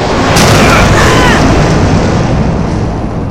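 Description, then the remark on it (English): A loud, dense roar of explosions and booming blasts as military Air Force aircraft fly over firing on three giant Zord robots, smashing ice; a sharp burst early on and faint whining, sweeping tones above the rumble. “The military aircraft fly over, blasting all three Zords, alien and ranger alike.”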